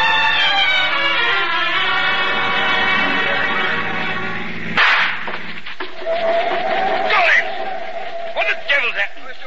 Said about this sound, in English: Mr. Waller, I'm afraid a tire's blown out. A tire, Colin? Yes, ma'am. Blasted in all this storm.